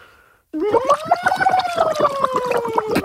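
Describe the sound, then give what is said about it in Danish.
Someone blows bubbles down into a glass filled with a lot of water, a loud, rapid gurgling burst lasting about two and a half seconds, with a steady hum-like tone rising slightly and easing down beneath the bubbling. “Hvorfor har du puttet så meget vand i det glas?”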